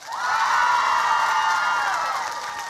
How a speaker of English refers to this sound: Now you got to cheer. Cheer. Now you got to clap your hands and cheer at the same time. Go.